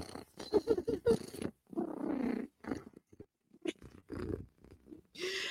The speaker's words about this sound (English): AU Big Purr, bitches, because if Cat is purring, Cat is a happy, happy girl.